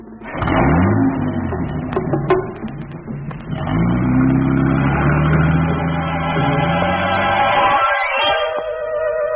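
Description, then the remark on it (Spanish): A car engine revs and accelerates away as the Japanese giant Tatake drives Lord Ferrison's car off at speed. Its pitch sweeps upward in rising bands over several seconds, with a rattling clatter early on and steady loud motor noise throughout. “Lord Ferrison abordaba su auto donde el gigante japonés estaba listo frente al volante.”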